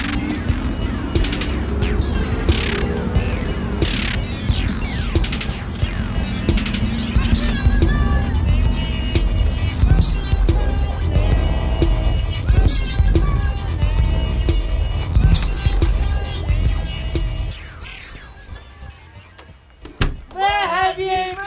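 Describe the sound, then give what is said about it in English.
A bus engine rumbles steadily as the bus arrives, low and loud, with rattles and clanks over it and muffled voices in the background, before the noise drops away near the end. “At last the bus is here.”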